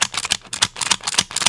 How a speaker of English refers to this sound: Stapler.